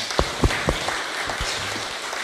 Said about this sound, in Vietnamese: Rất mong quý vị hoan hỷ, và nếu quý vị hoan hỷ thì cho một tràng vỗ tay.